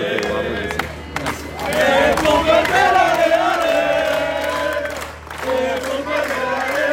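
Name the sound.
crowd of supporters cheering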